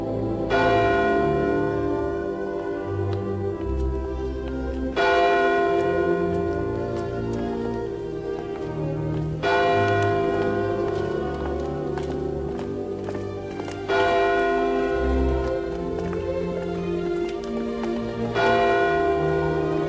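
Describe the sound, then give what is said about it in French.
Church bells peal loudly and continuously, their overlapping strikes ringing out in a steady rhythm with rich, lingering overtones, full with no voices. “Au revoir, à bientôt, au revoir les cloches, see you, bye bye.”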